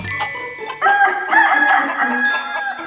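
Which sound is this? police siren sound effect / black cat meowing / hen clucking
hen clucking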